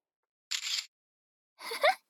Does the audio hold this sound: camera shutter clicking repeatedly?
yes